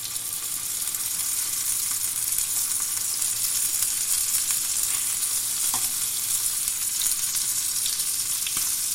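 Steady, loud sizzling of chicken pieces browning in a hot pan, a dense hiss that continues without pause, with a few faint clicks and pops scattered through it and no talking.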